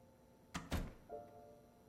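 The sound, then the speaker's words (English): A woman leaves a room and shuts the door behind her: a quick click, then a solid, deeper thump. A faint, thin ringing lingers briefly afterward. “Janet nods at Bee and leaves the room, shutting the door behind her.”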